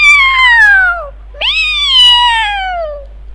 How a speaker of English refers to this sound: A little further on, Edward heard a mewing and a meow from behind a tree.